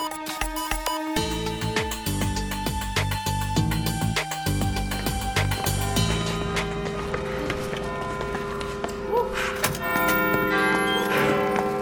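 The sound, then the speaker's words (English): A tower clock that has just reset itself to 11:45 rings its bells in a chiming melody, a sequence of loud, sustained pitched tones with long ringing overtones that overlap and blend, continuing steadily throughout with no voices. “And as you can hear, the clock has reset itself to 11:45.”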